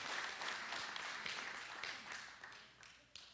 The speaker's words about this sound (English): I believe that deserves a hand clap of praise to God. I believe that deserves a good amen.